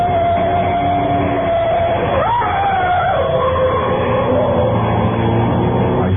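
A car engine starts up and runs steadily on a street, then revs up with a rising whine and pulls away, its rumble holding loud over a constant background noise.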